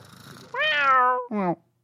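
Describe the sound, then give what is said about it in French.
A voice imitates a small cat's meow: a long, whiny, falling mew followed by a shorter one, fairly loud, with faint murmuring before it. “Il devait ronronner et il faire miaou.”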